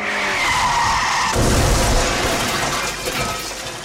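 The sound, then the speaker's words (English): An M-registration saloon car's tyres squeal and skid for about a second, then it crashes through a house's bay window with a loud smash of glass and impact, breaking a Franklin Mint porcelain songbird, followed by rattling, tumbling debris that slowly settles. “M. Reg Saloon through bay window.”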